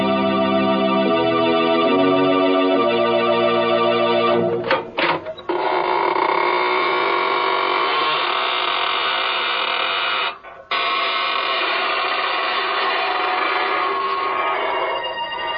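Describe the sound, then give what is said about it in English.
A few seconds of sustained organ-like tones give way to the creaking door of Inner Sanctum Mysteries, a long, loud, grinding creak of a door slowly opening, rasping on for about ten seconds with a brief break partway through. “This is your host of the Inner Sanctum, inviting you in through the creaking door.”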